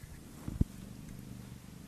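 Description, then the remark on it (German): A cat lying on a person's feet under a blanket purrs softly and steadily, its low rumble muffled, with a couple of brief soft thumps near the start and no voices. “hier schnurrt eine Katze. Hier liegt auf meinen Füßen.”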